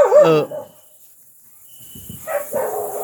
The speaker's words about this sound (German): Hundegebell aus dem Podcast schneiden.